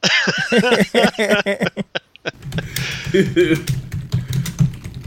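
Rapid, uneven clicking of keys on a computer keyboard, fairly loud, with voices and a bit of laughter mixed in at the start and a low murmur underneath.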